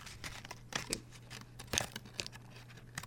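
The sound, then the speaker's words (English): A chocolate wrapper being unwrapped: quiet, irregular crinkling and rustling broken by a few sharper tearing crackles, with a faint steady hum underneath and no voices. “Then you unwrap the chocolate at home.”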